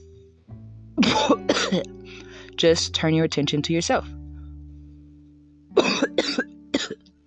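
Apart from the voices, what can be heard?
coughing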